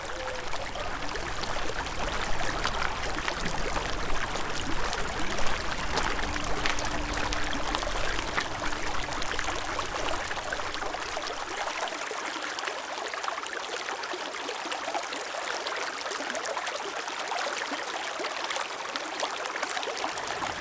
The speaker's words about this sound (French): N'hésitez pas, montez sur le talus, la rivière coule en contrebas. C'est l'Uvonne.